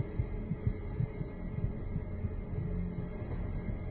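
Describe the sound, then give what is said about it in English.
A steady heartbeat thumps low and muffled, its soft regular pulses repeating over a faint background hum, with no voices present. “I can hear your heart beating.”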